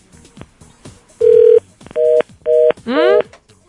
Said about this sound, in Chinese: 嗯？你拨的是家里电话吗？ 是啊。 那怎么一来就一下就断掉？